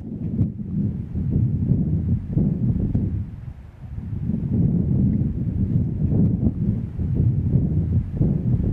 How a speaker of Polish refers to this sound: Takiego wiatru jednak nigdy w górach nie nagrałem. Nagrałem podobny. Na nadbałtyckiej plaży. Posłuchajcie go teraz ze mną.